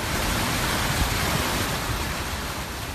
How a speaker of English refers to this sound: That sound of a flooding highway near Cleveland, Texas, about 50 miles outside of Houston. The remnants of Tropical Depression Imelda is dumping heavy rain throughout southeastern Texas and southwest Louisiana, causing major flooding there